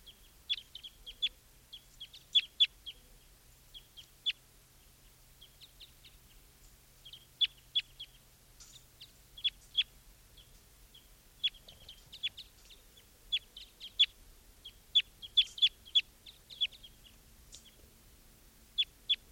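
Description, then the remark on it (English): Two wild birds looking down at decoys call in short, high chirps scattered through the stretch, some in quick clusters of two or three, with no talking over them and a quiet low hum underneath. “Ten here, and there are two wild birds here, looking down at the decoys.”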